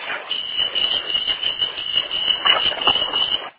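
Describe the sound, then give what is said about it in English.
A bus seat alarm sounds as a steady, shrill electronic tone held for several seconds over a rumbling background, then cuts off abruptly. “Okay, what was that alarm? That's the seat alarm.”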